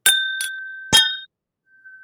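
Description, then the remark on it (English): Whisky glasses clink together in a toast, three bright taps, each leaving a clear ringing tone that hangs in the air before fading. No one speaks. “Shall we do a little cheers?”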